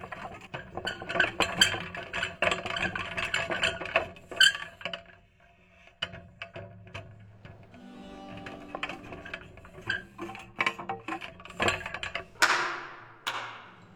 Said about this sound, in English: The kettle drums sound, not through being struck, but being wheeled into place.